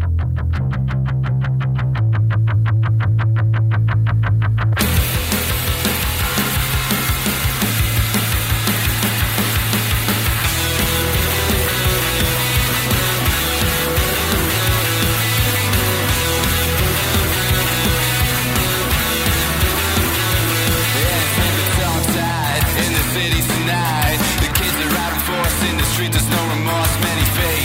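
A recording by an indie rock band from Glasgow opens with a sparse intro of low bass notes and thin guitar, then bursts into a loud, full-band sound of distorted guitars and steady drums that drives on without letting up.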